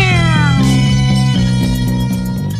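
A loud, close, drawn-out cat meow whose pitch slides downward, followed by a sustained tonal wail, with faint rhythmic ticking in the background and no talking.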